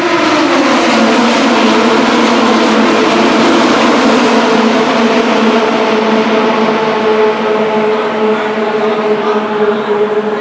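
A pack of 14 to 18 race cars roars past the start-finish line of the 2.5-mile oval track at Indy in about 3 seconds, a loud, continuous wall of high-pitched engine whine whose tones slide slightly downward as they go by, with no pauses or voices.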